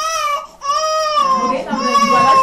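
A baby cries loudly in two long, sustained wails separated by a brief gasp, with a faint murmur of background voices beneath the second cry, at the Poto-Poto health centre in Berberati, Central African Republic, where mothers bring babies for vaccinations.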